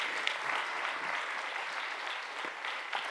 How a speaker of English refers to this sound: Would you mind just giving Ed a hand of applause just for being so faithful and kind?